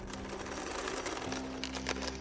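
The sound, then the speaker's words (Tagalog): A metal chain attached to a foot being dragged, a steady rattling and scraping with irregular clinks and jangles over a low constant hum, no voices. “Alam niyo po yung tunog ng kadenang nakakabit sa paa tapos kinakalagkad tulad ng mga napapanood natin sa mga horror movies?”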